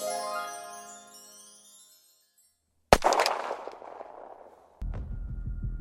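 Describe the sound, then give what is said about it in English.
A fading, chime-like musical tone dies away into silence, then a single loud, sharp gunshot cracks out with a ringing, echoing tail, followed by a low rumbling noise. No one speaks. “It sounded like gunshots.”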